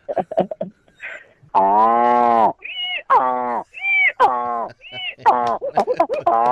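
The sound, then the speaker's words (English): A person imitates a donkey's bray, alternating long, low, throaty groans with short, high-pitched squeals in a repeated hee-haw rhythm, loud, after a brief bit of speech. “Okay, so I really, this is a really tricky one is the donkey. Can you do that?”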